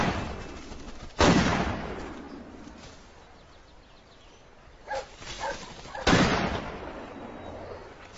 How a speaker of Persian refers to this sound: شلیک خوبی بوده. ممنون. عالی بود. تنها نکته مثبتم تو ارتش همین بود.